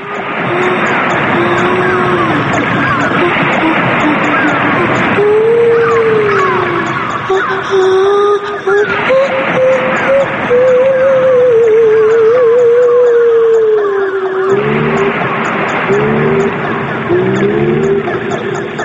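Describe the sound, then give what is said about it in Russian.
Whale and dolphin calls: long, gliding moans that rise and fall over a dense, hissy underwater wash, then shorter wavering, pulsing calls toward the end. Fairly loud and continuous, no talking. “С тех пор космос заселен котиками, китиками и дельфинами.”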